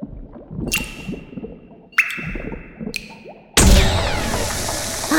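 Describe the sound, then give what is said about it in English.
A witch's magic potion in a cauldron bubbles and gurgles steadily as three bright, ringing zaps flash over it, then it bursts into a loud, sustained fizzing rush that carries on to the end. “There was a flash and a lot of bubbling, and then the whole potion turned bright yellow.”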